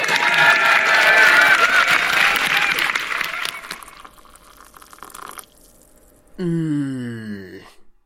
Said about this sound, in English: Thank you so much for coming, and very ugly now, please may you clap and cheer.